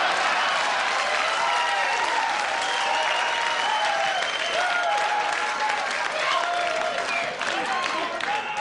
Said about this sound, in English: But did you guys hear the crowd? They knew his jokes. They knew, obviously these are one-liners, so it's easier to know the material,